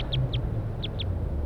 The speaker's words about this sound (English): So recording, we got wild birds calling from the treetops.